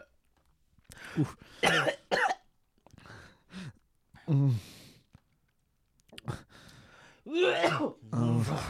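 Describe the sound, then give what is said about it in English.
A prolonged coughing fit: harsh bursts come in uneven clusters, mixed with strained, groaning gasps and gagging heaves, and grow heavier and more sustained toward the end. “You know how you cough too much and you're like, I'm going to barf if I puke again.”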